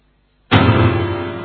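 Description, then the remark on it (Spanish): A door slams shut with one sudden, loud bang, then a resonant rumble rings on and slowly fades. There are no voices, just brief silence before the impact. “Se va el tipo, ¿no? Llegué hasta la puerta cerrada.”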